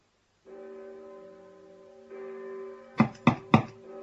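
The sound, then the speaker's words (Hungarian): Three heavy metallic knocks from a door knocker on the huge gate of Lindhorst's castle-like house land in quick succession near the end, loud, over a sustained low droning tone that hums throughout. “Micsoda hatalmas kapu. Ez a kopogtató valakire emlékeztet.”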